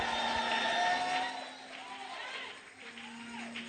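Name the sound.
audience shouting and clapping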